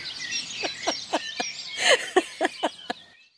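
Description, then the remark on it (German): Birds sing outdoors on the Pfaueninsel, an island, in a quick series of bright chirps and trills, about eight short notes in an irregular rhythm over a soft airy background, clear. “Ich meine jetzt das Vogelkonzert und ich meine das Theater mit dem Ehemann.”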